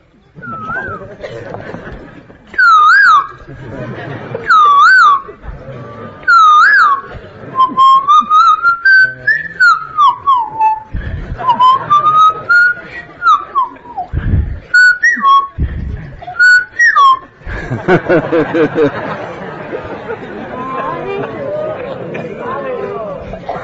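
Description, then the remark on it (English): A person whistles an imitation of the song of the kokila, the cuckoo bird: short, bright swooping notes repeated in bursts, then longer warbling glides, before a rush of noisy murmuring takes over near the end. “He would sing just like a cuckoo bird, Kokila.”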